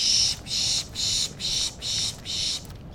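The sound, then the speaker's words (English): A birder pishing to rile up birds at dawn in woods at the edge of Big Lagoon County Park, north of Arcata, California: six evenly spaced, breathy hissing bursts in a steady rhythm, fairly loud against a quiet outdoor background. “That sound he's making is called pishing.”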